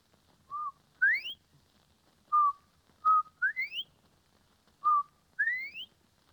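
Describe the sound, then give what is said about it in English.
A woman whistles an imitation of a bobwhite quail call, repeating the clear two-part phrase three times: a short steady note followed by a sharply rising slurred whistle, with no other sounds. “you are going to whistle. Do you mind if shall I read? Your first imitation is Bob White”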